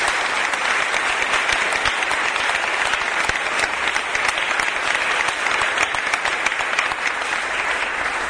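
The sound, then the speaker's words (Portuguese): A sustained burst of audience applause for all the composers at a Samba da Vela gathering. Many hands clap at once, dense and steady, loud and unbroken throughout, with no voices standing out. “Uma salva de palmas a todos os compositores.”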